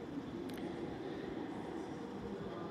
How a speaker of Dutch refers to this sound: Ik sta namelijk in Liège, of Luik, en meer bepaald in het station van Luik-Guillemin.